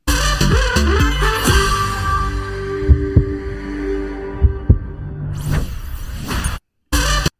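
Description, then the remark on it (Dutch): A short jingle of sustained electronic tones over deep, throbbing thumps, swelling into a loud whooshing sweep before cutting out, followed by a brief final burst of sound. No one speaks. “Dit is de jingle, dus dit is wat we steeds heel snel...”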